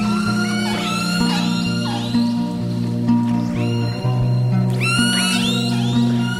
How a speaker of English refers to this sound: Of killer whales actually has its own unique set of sounds, a repertoire of very distinctive calls.